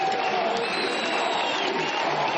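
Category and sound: crowd, crowd cheering and applauding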